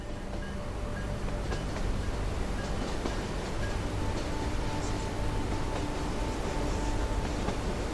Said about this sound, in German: Das sanfte Ruckeln und das rhythmische Klacken der Räder auf den Schienen wirken unendlich beruhigend.